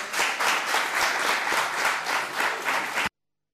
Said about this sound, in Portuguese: Vocês têm todo o tempo do mundo para aplaudirem amanhã. Aqui em comissão só se aplaude quando o Sr. Presidente diz que é momento em que se pode aplaudir.